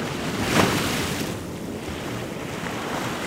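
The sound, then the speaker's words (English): Choppy waves of the English Channel wash continuously onto the beach at Dumpton Gap in Broadstairs, England, on a grey day, a broad steady roar with a louder surge early on, mixed with gusty wind noise and no voices. “On a grey day at the beach at Dumpton Gap in the coastal town of Broadstairs, the waves were choppy,”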